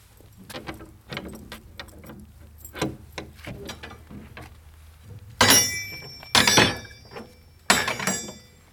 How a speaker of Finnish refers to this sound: Ovet ovat avautuneet aikanaan sisäänpäin, mutta nämä ovet, jotka nyt avasimme, ne ovat vuodelta 1829, jos oikein muistan.